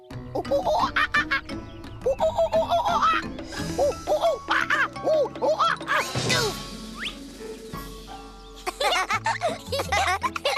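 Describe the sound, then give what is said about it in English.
A person imitates a funny monkey during a guessing game, making a rapid string of squeaky, hooting oo-oo and ah-ah calls that rise and fall in pitch, loud and playful, with brief pauses between bursts. “You were a monkey, right?”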